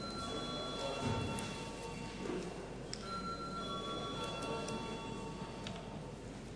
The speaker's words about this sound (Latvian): Lūdzu deputāts balsot par likumprojekta pieņemšanu otrajā lasījumā. Lūdzu zvanu.